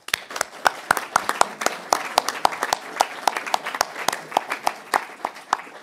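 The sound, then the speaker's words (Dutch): A group at a municipal council meeting applauds the sitting council members at the end of an agenda item, many sharp overlapping claps in a brisk, uneven rhythm at a moderate level, with no voices breaking through. “Nou, ik zou zeggen, laten we dit agendapunt dan eens beëindigen met een applaus voor ook de zittende raadsleden.”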